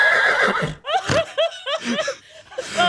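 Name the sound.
horse neighing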